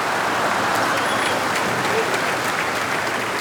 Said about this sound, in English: And all these people, they never have applause. Therefore, I'm going to ask you, give them the biggest applause you ever gave in your whole life!